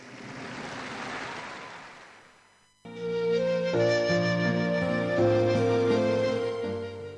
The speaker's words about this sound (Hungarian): mondta a pápa, majd arra kérte a Szent Péter téren összegyűlt híveket, hogy tapsal köszöntsék az új boldogot. Un applauso alla nuova beata tutti insieme.